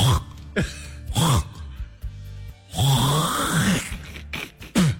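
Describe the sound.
A voice imitates throat clearing with a series of raspy, guttural hacking bursts, several loud sputters in an uneven rhythm with brief pauses between them.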